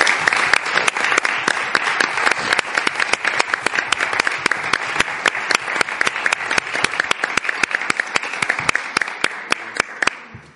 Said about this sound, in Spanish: Bueno, pues despedimos con un aplauso a la compañera.